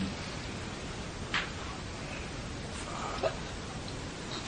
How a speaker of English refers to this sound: And sometimes raining, sometimes not rain, sometimes air passing.